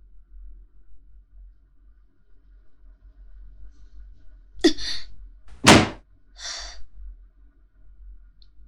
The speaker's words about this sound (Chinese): 很好，摔门。